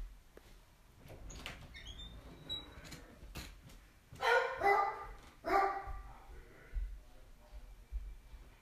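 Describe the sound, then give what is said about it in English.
An old dog barks in two loud, sharp bursts a second or so apart because he needs to go to the bathroom, with scattered clicks and knocks like a door or cupboard moving before them and faint rustling after. “He's barking.”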